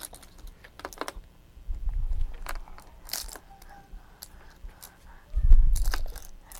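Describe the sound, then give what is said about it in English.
Keys jangle and clink in irregular bursts of sharp metallic clicks, with a couple of soft thumps as they're handled and grabbed. No one speaks. “Get those keys. Get those keys. There.”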